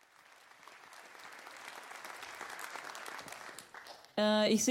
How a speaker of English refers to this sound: I think for this, please all, big round of applause.